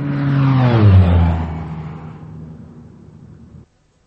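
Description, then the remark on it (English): An airplane roars overhead, its engine hum dropping in pitch as it passes, loudest at first and then steadily fading before cutting off abruptly. No one speaks. “An airplane flew overhead and I couldn't hear.”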